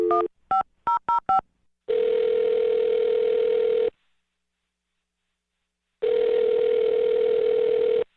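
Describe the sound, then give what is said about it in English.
Five quick keypad beeps of a phone number being dialed, then a steady ringing tone that sounds for two seconds, stops, and rings again, clear with no one talking. “Well, I'm going to dial her phone number right now.”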